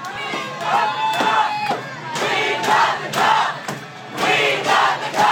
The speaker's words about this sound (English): Colorado hockey fans are celebrating.